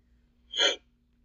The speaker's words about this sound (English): excuse me, burped like a man, burped like a grown ass man. I just didn't mean to do it into the mic. I'm sorry.